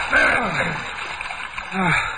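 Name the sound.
water splashing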